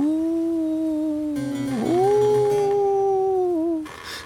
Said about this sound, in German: Plötzlich ertönt ein klagendes Geheul.